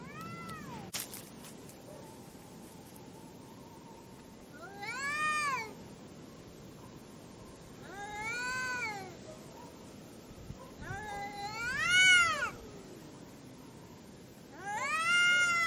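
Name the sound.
cats fighting and caterwauling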